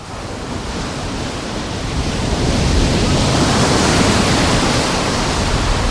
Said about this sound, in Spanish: Una mezcla de sonido de olas y de viento.